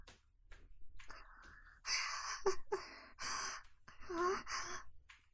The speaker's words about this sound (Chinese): 没有啊，我就是刚走了一段路，有点大喘气而已。